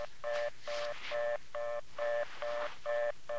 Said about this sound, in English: What you're hearing, sir, is the sound coming from the kitchen phone. And that's the same sound that I heard when I first arrived and I put the kitchen receiver to my ear. And what does that tell you, Lieutenant? It's a fast, busy signal, sir.